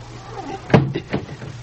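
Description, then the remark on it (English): A trap door closes with one sharp, heavy thud, followed by two softer knocks as it settles, over a faint low hum and no talking. “They close the trap door, he said.”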